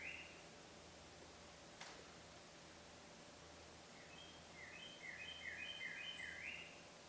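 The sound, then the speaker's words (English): A bird sings faintly in the background, a short burst at the start and then a quick run of repeated chirps, over a steady background hiss with no one talking. “Even while the bird sings in the background, it's all there.”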